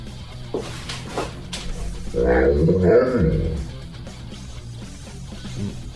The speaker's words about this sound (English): What do you hear, if anything, this dog saying?